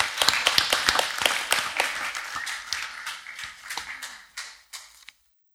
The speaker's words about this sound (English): Thank you, guys, if you take your seats. Let's give them a round of applause for standing there so brilliantly.